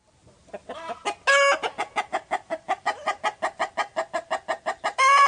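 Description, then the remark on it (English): Chickens at a historic farmhouse along Route 260 in Monroe County, southeastern Ohio, cluck in a quick, steady run of short, evenly spaced calls. The clucking is broken by two louder, drawn-out squawks near the start and end. No one speaks. “She lives there with her parents, Ruth and Mike, a few horses, chickens, goats, cats, and dogs.”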